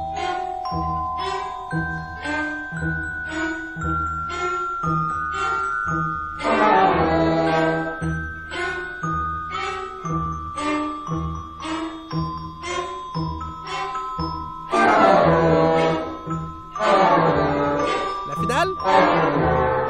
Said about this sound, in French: Qui ont utilisé une sonnette de porte comme instrument de musique.